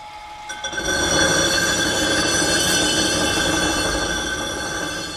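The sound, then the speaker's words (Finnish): Rough grinding of a roughly 30-kilo stone block for a sculpture, forming the object's initial shape: a harsh, continuous abrasive roar laced with a shrill, steady screeching whine, rising loudly after a brief quieter start and holding for several seconds without speech. “Nyt on meillä menossa kyllä tässä niin sanottu karkea hionta, jolloin tehdään esineen alkumuoto alkuunsa.”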